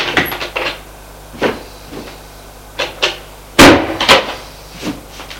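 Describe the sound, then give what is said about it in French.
A wardrobe door is handled with a series of short wooden clicks and knocks as a woman puts her clothes at the bottom of her wardrobe, then a louder bang and rattle as it shuts, followed by a final faint tap. No one speaks. “Elle va les mettre en bas de son armoire.”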